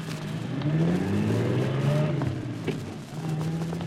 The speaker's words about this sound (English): There they go, Archie. That car.